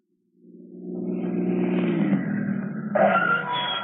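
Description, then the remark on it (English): A car engine rumbles in and grows louder as the vehicle pulls up, its low steady drone holding for a few seconds with a brief rise in pitch near the end. “All right, Duke, get in the car.”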